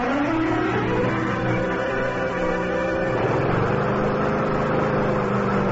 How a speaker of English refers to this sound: Yeah, just mowing the lawn, Mr. Hardy. It gets real shaggy.